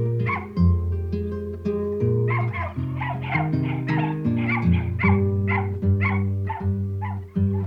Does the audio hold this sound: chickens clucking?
no